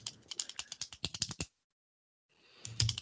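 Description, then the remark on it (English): A ballpoint pen clicks rapidly over and over in a quick, uneven burst of sharp, crisp snaps, stops for a moment, then starts up again with a few more clicks. “Sorry, I was clicking my pen. I've been sitting here clicking my pen like a terrible pen clicker.”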